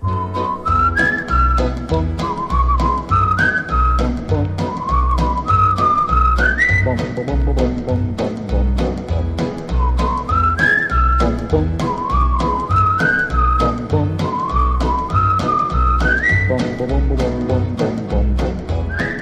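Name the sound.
human whistling a tune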